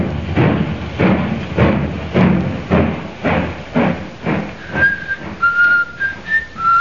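Steady, heavy footsteps thud along a train platform as a man walks with his hands in his pockets, then he starts whistling a cheerful tune, clear, with short bright notes rising and falling over the walking rhythm.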